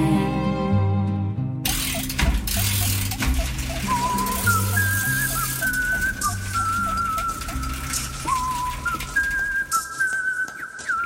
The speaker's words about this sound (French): Entendez-vous cette jolie mélodie? C'est Pitocha qui sifflote pendant qu'il met au point sa dernière invention